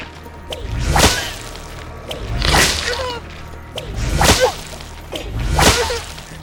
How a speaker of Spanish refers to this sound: William no quería mostrarse débil frente a Ramán, aunque el dolor que le producían sus latigazos era insoportable.